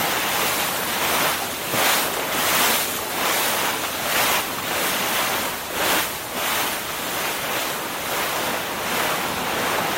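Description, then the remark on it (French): A loud, continuous rush of strong wind, heard from behind a door of a large cargo ship carrying trucks and containers, roars without pause, swelling in soft gusts every second or so, with a faint low rumble beneath and no voices. “On est derrière une porte d'un bateau. Et on entend le vent.”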